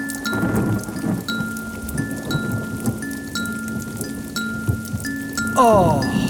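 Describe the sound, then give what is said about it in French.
Steady rain falls with a continuous hiss and patter, while soft repeating tones chime on top like a simple melody; a brief voice-like sound rises near the end. “Oh, la pluie maintenant, il manquait plus que ça.”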